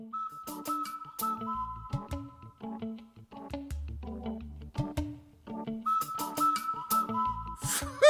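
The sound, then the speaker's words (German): A whistle imitates a cuckoo's call, sounding short, bright tonal notes again and again in a lively rhythm over a sustained background tone. It is fairly loud, with no talking. “Sie bemühten sich besonders, den Kuckucksruf genau zu treffen.”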